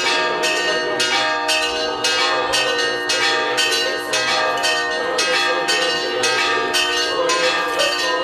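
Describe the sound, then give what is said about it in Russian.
Church bells at the church in Alferyevka, Penza district, peal loudly and continuously to greet the metropolitan on the feast day of Venerable Pimen of Ugresh, with repeated bright strikes ringing out in a steady rhythm over a dense, sustained wash of overlapping tones. “Святым образом, хлебом, солью и под колокольный звон.”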